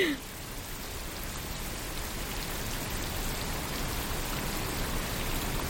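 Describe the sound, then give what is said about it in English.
Steady, dense rain hiss filling the whole range, the rain modified to make it white noise, an even wash with no breaks or individual drops standing out, constant in level throughout. “This isn't just any rain. It's rain that has been modified to make it white noise.”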